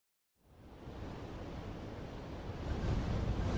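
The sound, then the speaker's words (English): Strong wind roars steadily on a cloudy day, a broad rushing noise that swells louder toward the end, with no voices present. “It's windy and it's really cloudy today.”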